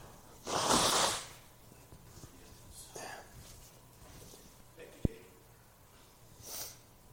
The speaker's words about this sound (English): I'm going to blow my nose for a second.